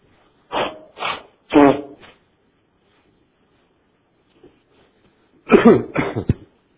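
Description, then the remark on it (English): Someone blows their nose in two loud, bursty rounds, a few quick honking blasts, then a quiet pause before a final pair of forceful snorts. No one speaks. “Excuse me as I blow my nose.”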